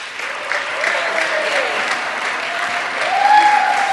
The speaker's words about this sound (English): please indicate by uproarious applause whether or not you fit into one of these categories I'm about to give out. Everyone who is joining Trivia for the first time ever, this is their first year, please applaud yourselves right now.